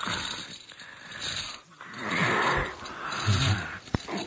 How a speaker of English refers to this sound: Here's what a zombie sounds like.